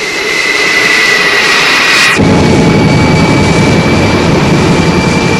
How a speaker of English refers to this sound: We board our choppers. Seven men each, with weapons, ammo, prayers. The first assault wave lifts off. We're on our way.